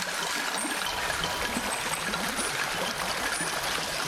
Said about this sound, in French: Du glouglou des méandres sud à l'ondulation des vaguelettes. Il y a beaucoup à voir et à entendre au fil de l'eau. Écoutez donc un peu comme le vent et les oiseaux accompagnent cette douce mélodie.